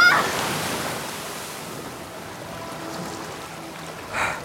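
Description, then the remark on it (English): Rushing floodwater roars steadily through a flooded tunnel, a dense hissing wash of water that stays loud throughout, with a brief surge of splashing near the end. “Yeah, but the tunnel behind us is flooded.”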